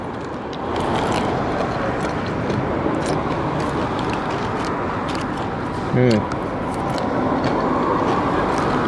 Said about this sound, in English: Now the sound of me eating a 7-Eleven salad. with crunchy noodles.